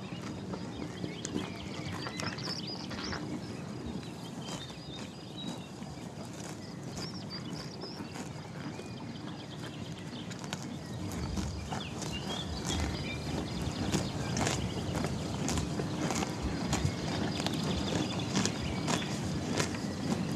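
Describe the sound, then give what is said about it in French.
A horse eating in a stable in Saint-Sulpice-la-Forêt, with steady crunching and chewing, occasional shuffles and knocks, and a low continuous background hum. “Non, mais on est quand même sur des animaux domestiques. Le cheval.”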